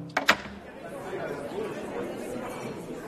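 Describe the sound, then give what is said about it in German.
A steady murmur of many guests chattering indoors, voices overlapping without clear words, waiting as the auditorium doors open for 7 pm admission at the Festspielhaus St. Pölten concert hall, Austria, some drinking wine or eating rolls; two brief sharp knocks or clicks at the start as the doors open. “Die Türen des Zuschauerraums öffnen sich. Dahinter warten schon einige Gäste, so mancher trinkt noch ein Glas Wein oder isst ein Brötchen.”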